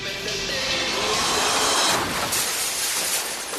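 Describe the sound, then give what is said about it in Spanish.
A car smashes through the display window of a luxury jewelry store after its drunk driver confuses reverse with first gear: a loud, sustained burst of shattering glass and crunching debris that rattles on for several seconds without letting up, with no voices. “su auto se estrella contra el aparador de una joyería de lujo.”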